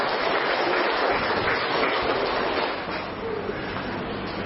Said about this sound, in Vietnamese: Hà Nội, Hà Nam, rồi mời Hà Nội, Hà Nam lên đây. Chúng ta cho Hà Nội, Hà Nam một tràng pháo tay thưa anh chị em.